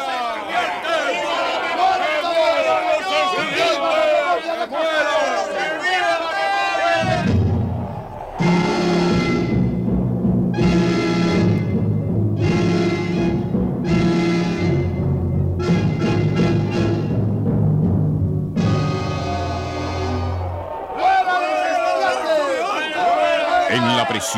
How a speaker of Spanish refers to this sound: A partir de ese instante, en los alrededores de la cárcel, fue creciendo el número de voluntarios llenos de odio que amenazaban prácticamente apoderarse de la prisión. De sus labios salían siempre los mismos gritos. ¡Mueran los estudiantes!